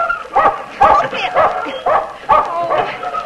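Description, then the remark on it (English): A dog, Jackie, barks and yips repeatedly in short, sharp bursts, mixed with high whimpering whines between the barks, loud and agitated throughout, while held under a water pump and washed after being sprayed by a skunk. “Oh, still, you skunk hound.”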